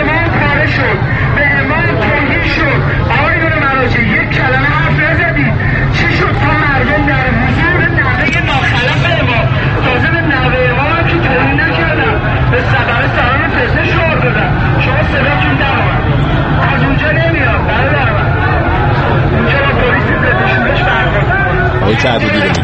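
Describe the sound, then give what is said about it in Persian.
A dense crowd hubbub from a student protest at the University of Tehran fills the scene with many overlapping voices and shouts, steady and loud throughout, with a low rumble of traffic underneath. “این مال 24 خرداد، مال دیروز دانشگاه تهران، اعتراضات دانشجویانه.”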